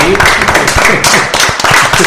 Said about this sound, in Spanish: Pues oye, yo aplaudí.